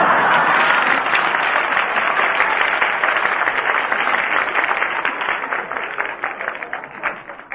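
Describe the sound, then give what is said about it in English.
Steady audience applause, a dense crackle of many hands clapping that holds strong throughout and only starts to thin slightly near the end. No one speaks over it. “And I didn't ask for any applause either.”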